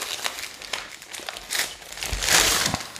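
Newspaper crinkles and rustles as a bottle of grog, a sugarcane spirit from Santo Antão, Cape Verde, is unwrapped from original Cape Verdean newspaper, in irregular crackling bursts that swell into a louder, sustained crumple near the end.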